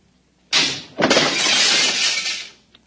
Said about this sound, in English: Oh, how careless of me. I seem to have broken the cooling tubes. Cooling fluid all over the floor.